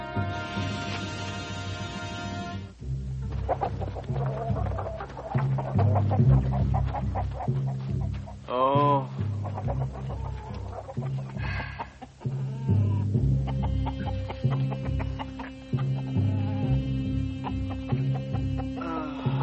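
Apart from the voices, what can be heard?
chickens clucking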